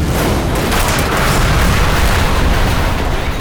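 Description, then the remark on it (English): A dense, unbroken barrage of explosive mini MIRV missiles slamming into bots and shattering them, a loud, heavy roar of booms and crackling blasts running together for several seconds with a deep low-end rumble and no voices. “Explosive mini MIRV missiles, M&M&Ms as Randy calls them, slammed into the bots, shattering them on contact.”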